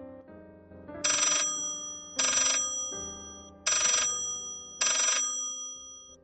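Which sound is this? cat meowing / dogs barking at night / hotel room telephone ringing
hotel room telephone ringing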